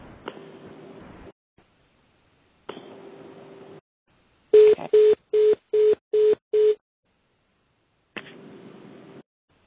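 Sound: telephone beeps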